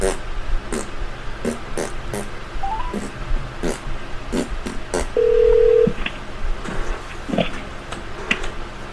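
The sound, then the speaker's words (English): Telephone dialing tones as a call is placed to someone whose earlier call dropped: a string of sharp, irregular clicks and short electronic blips, with one steady mid-pitched beep held for under a second partway through. “Maybe I should call him.”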